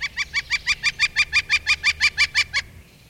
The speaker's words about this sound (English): The northern flicker, a bird with a gorgeous Latin name, Colaptes auratus, the golden chiseler.